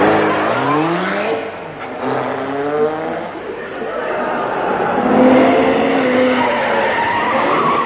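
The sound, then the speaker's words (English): A car engine roars as the vehicle pulls away, its tires squealing and skidding in long rising and falling whines, loud throughout. “Pour it in the tank of this car.”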